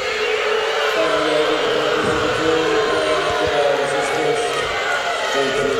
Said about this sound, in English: Crowd booing.